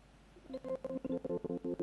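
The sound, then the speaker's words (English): A Windows Phone speech prompt chime, run in an emulator after a button is held down, plays as a rapid, stuttering run of about a dozen short tonal beeps, like a glitchy doorbell, clear with no voices. “And we get this wonderful broken doorbell.”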